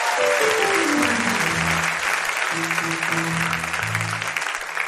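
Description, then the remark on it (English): A large audience in Paris claps loudly and continuously for about five seconds, a dense steady wash of applause with a few sustained musical tones sounding underneath. “Oh, I'm not getting your clapping.”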